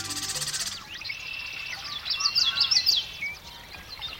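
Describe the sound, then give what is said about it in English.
A dawn chorus in a western marsh in midsummer, males of more than a dozen bird species singing to stake out territories and attract mates, many overlapping songs, high chirps and trills layered together, busiest in the middle, with no voices. “It's dawn in a western marsh in midsummer, and man, those birds are singing.”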